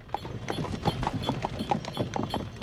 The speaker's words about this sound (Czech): Ale vždyť zvonky našich vraníků je uslyšet až sem.